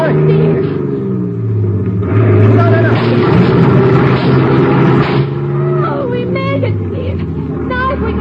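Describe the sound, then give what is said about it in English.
A heavy truck engine rumbles loudly and steadily, revving up as the truck speeds forward to crash a barricade on a bridge, its deep drone filling the whole stretch while voices shout over it. “Step on the gas, Teal. We're going to crash that barricade on the bridge.”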